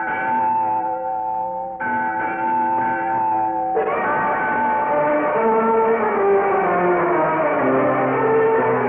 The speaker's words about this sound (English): And, as the legend had predicted, the mission bell at St. Linda rang out, for the treasure was in the bell tower.